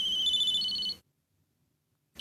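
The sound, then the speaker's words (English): A mobile phone rings in someone's pocket with a bright electronic tone, sounding for about a second, falling silent, then starting again as the next ring cycle begins. Clear, with no voices. “Then his phone began to ring.”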